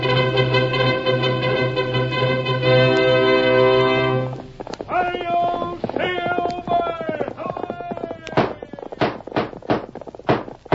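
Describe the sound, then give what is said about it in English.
After a sustained brassy musical chord, a rapid run of sharp hoof beats gallops in, loud, in a steady driving rhythm over the last few seconds: the horse Silver in the opening of the Lone Ranger radio Western. “Horse of the speed of light, a cloud of dust, and a hearty hi-yo, Silver, the Lone Ranger.”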